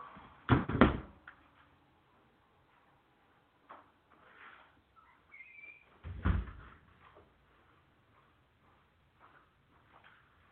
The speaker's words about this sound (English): Let me close this damn door before we get any further in this, man. Give me a minute here, guys.